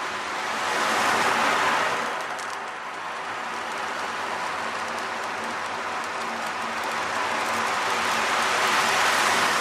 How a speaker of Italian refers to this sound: Allora sentiamo questi suoni che ci riportano chissà dove, in un... Spero all'acqua, al mare.